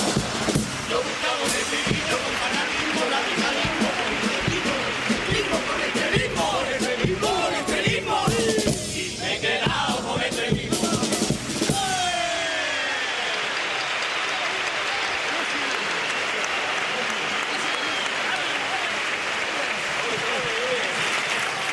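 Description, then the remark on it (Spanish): A crowd applauds loudly with cheers and shouts after two rounds of cuplés, a steady dense clapping that carries on for about twenty seconds, with voices yelling over it in the first half before settling into sustained applause. “Aplaudidísimas estas dos tandas de cupletinas.”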